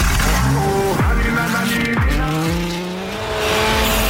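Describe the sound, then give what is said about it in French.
Sébastien Loeb's car engine roars loudly as he starts it, its pitch sweeping down sharply several times as it revs, with steady music playing underneath throughout. “C'est juste une voiture qui démarre et la musique derrière.”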